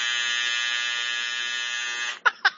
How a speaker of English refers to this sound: I have yet to find that damn buzzer because I would rip it right out.